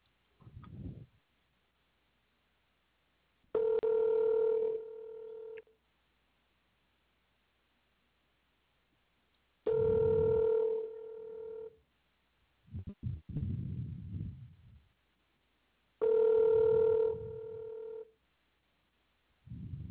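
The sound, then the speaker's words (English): A phone line rings out on a call to a salesperson at a store in Valencia, California, three steady ringback tones about six seconds apart, each lasting roughly two seconds, with faint line noise and brief clicks between them. “I can get the guy on the phone, and let's see if he can solve this problem for us.”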